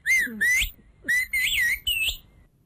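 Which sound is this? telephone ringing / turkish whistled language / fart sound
turkish whistled language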